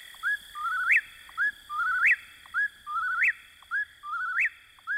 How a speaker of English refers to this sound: It remains, as Thoreau described, a bird of the night side of the woods, where you may hear the whippoorwill in your dreams.